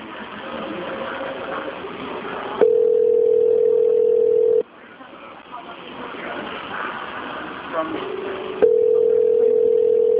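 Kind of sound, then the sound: signal or alarm, telephone call ringing tone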